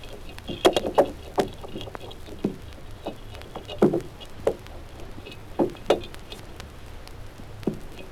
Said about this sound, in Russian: Зеленушки питаются. Слышен захват и перетирание пищи.